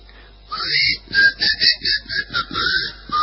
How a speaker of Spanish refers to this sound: Si te gusta silbar...